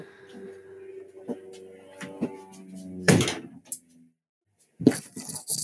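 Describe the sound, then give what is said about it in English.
A wooden shed door bangs shut with a sharp clatter, followed moments later by a second knock, while the low engine drone of a Spitfire aeroplane flying above the shed hums in the background before the slam. “Let me just shut the door.”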